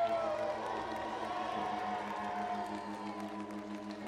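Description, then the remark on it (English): A large audience shouts and cheers with sustained crowd noise, while an organ holds steady chords underneath throughout. “Clap your hands. Stand up on your feet and shout right now.”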